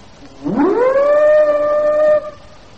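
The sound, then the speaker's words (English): A single loud ship's siren blast, sounded to signal another ship to close up, rises quickly in pitch, then holds a steady, harmonically rich tone for about two seconds before cutting off abruptly, with no voices. “can't we use the siren, sir?”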